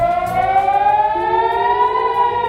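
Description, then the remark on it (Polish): A civil defense air raid siren in Israel, sounding early in the morning in central Israel and the north including the port city of Haifa to warn residents of an Iranian missile attack, wails steadily, its tone slowly rising in pitch, loud and continuous with no voices present. “To jest właśnie dźwiękowe ostrzeżenie dla mieszkańców przed atakiem rakietowym Iranu.”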